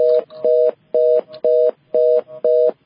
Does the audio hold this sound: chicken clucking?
no